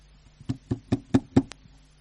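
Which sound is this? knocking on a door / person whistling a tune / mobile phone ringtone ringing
knocking on a door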